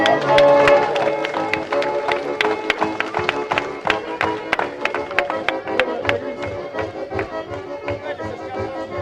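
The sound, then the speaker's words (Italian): An audience claps in a steady, rhythmic beat, sharp even claps repeating for several seconds over sustained musical tones, fairly loud. The applause welcomes a friend who comes to play the organ. “un applauso va dall'amico Cacchitto che viene a suonare l'organo”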